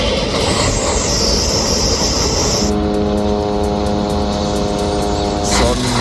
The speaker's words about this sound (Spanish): Cientos los camiones que esperan en la frontera con Egipto para poder cruzar y suministrar ayuda humanitaria y alimentos a la franja.